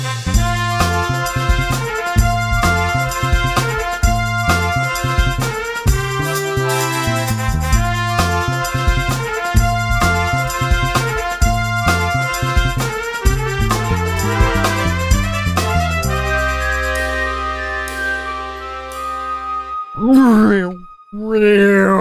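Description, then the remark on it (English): A rhythmic, harmonically dense musical passage gives way to sustained tones, then a voice briefly imitates a car engine with a loud, rising-and-falling revving vroom near the end. “That's car sounds.”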